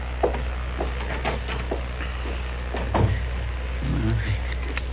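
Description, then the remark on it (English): A door opens and then closes, with a few wooden knocks and clicks spread over several seconds against a steady low hum. “It's right through that door there.”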